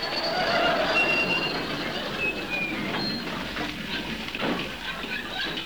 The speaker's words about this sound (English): It's the 10:23 special calling at all stations to Haywards Heath.